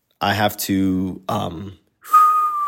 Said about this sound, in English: I have to blow in. No Diddy. We started saying that from last episode. I have to suck. No Diddy. So that's the only way that I can whistle.